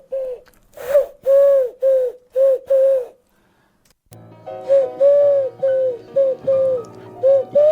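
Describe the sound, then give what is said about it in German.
A person imitates a pigeon in a radio studio with a run of short, throaty coos, pauses briefly, then coos again in a steady rhythm over a low background hum, fairly loud. “Ist hier eine Taube im Studio? Das gibt's doch nicht.”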